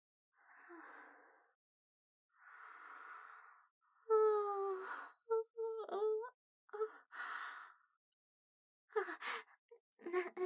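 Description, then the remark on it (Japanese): A drawn-out yawn from someone feeling sleepy: two long breathy inhales, then a voiced moan that slides downward, trailing off into a few short breathy sighs and murmurs. No talking. “なんだか眠くて、あくびが出たら涙が出ちゃった。”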